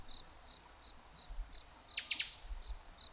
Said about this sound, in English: The rhythmic chirping of crickets.